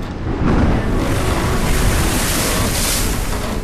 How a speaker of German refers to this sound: Auf dem Weg zurück nach England geriet unser Schiff in der Karibischen See in ein schweres Unwetter.